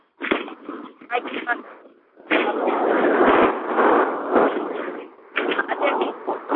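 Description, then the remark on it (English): Loud, muffled vehicle noise from an unmuted caller on a car or a train during a meeting call, a rushing roar in long bursts with brief dips between, with faint indistinct voices mixed in. “There's someone on a car or a train. It's very noisy.”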